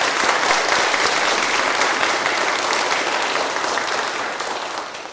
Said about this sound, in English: But I think, parents, we could give them a wee round of applause just to encourage them.